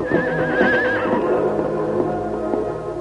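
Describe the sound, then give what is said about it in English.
Silver, the Lone Ranger's stallion, neighs loudly in a pen, a high, quavering whinny that shakes for about a second before dropping into lower snorting and rumbling, with a few soft knocks like hooves shifting. No one speaks. “Silver's wild trumpeting startled the hide hunters.”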